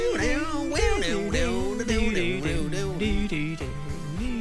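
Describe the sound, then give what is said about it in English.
The instrumental theme tune of the TV show The Rockford Files plays loud and steady, with a reedy, pitch-bending harmonica lead over keyboard chords and a driving low bass, no voices. “Oh, imagine writing this piece of music.”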